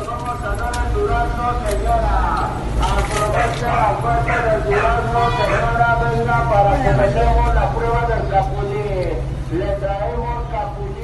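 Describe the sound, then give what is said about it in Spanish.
A fruit vendor truck in a street in Mexico, its steady engine rumble underneath a loud, amplified voice calling out continuously over a loudspeaker, with faint clopping and street noise around it. “Camión de fruta.”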